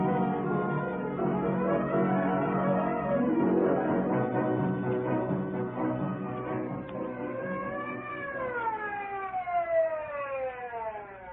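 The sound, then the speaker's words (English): An ambulance siren wails steadily and fairly loud, its pitch sweeping up and down in long slow cycles over a dense background rumble, with no one speaking. “Twenty minutes later, the ambulance arrived.”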